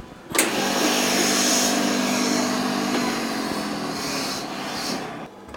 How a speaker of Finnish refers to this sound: Vaikka ollaan ompelimossa, niin täällä on tosi hiljaista jotenkin. Se ompelukoneiden äänekin on aika matalalla tasolla. Eikö se olekin? Ja se on aika miellyttävä. Se on ihan mitattu meillä, että se ei ylitä tiettyjä desibelejä.